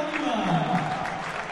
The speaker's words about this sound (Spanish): Ovación, para los dos.